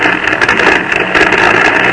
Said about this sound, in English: That airplane motor sounded kind of weak, didn't it? Makes you wonder whether that plane will ever reach the ground safely again.